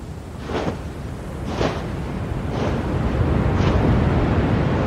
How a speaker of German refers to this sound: Wartet man so durch diese Wüste aus der First-Person-Perspektive, läuft so ein bisschen durch die Gegend, nichts Besonderes passiert und ein Windsturm zieht langsam auf und wir merken schon, oh, okay, da wird's jetzt schon ein bisschen unangenehm